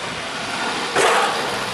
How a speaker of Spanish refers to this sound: Ese sonido de los neumáticos, ¿no? Era en la arena. Sí, eso es, sí, sí.